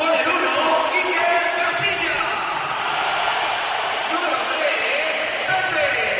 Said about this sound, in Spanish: Hoy yo creo más palmas. Muy bien. Que pitos. Pero parecía división de opiniones, ¿no? Sí, sí, hay división, pero más palmas que pitos.